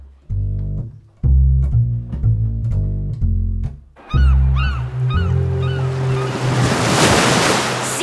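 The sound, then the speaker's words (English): Harbour water waves in Hong Kong surge during a swim in a steady, rushing wash that swells louder toward the end, with chirping bird calls over it, after a few seconds of stacked, chord-like tones. “I told you, nothing like a swim in the harbour to wash away the jail smell.”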